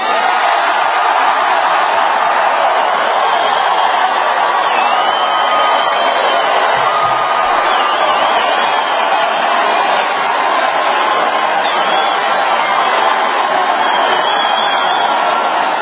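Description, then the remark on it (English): A large indoor crowd at a President Trump rally in Phoenix cheers and roars steadily for about sixteen seconds, a loud, dense wall of voices with scattered whoops rising out of it and no break in the noise. “Keep it going here. Look at that crowd.”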